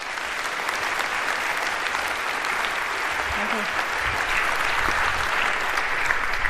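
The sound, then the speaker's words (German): Sustained applause from a large audience welcoming two speakers before their talk, a dense steady patter of many hands clapping at constant loudness throughout, with faint murmurs underneath. “Bitte einen warmen Applaus für die beiden und hier kommt euer Talk.”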